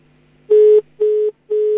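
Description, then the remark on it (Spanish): Three steady electronic telephone dial tones, each about a quarter second long with short gaps, loud over a faint background hum, like a phone line signal heard through a broadcast feed. “Voy a poner el teléfono.”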